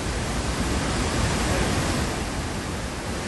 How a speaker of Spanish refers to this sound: así que empezamos con un sonido. Sonido muy potente, un rugido que no es otro que el de las Cataratas Victoria.